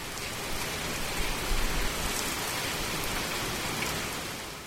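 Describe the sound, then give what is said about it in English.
Steady rain pours down in a dense, even hiss of countless drops pattering on surfaces, with a faint low rumble underneath and no voices. “Too much stormwater runoff from showers like this, or too much river pollution, can kill the oyster beds.”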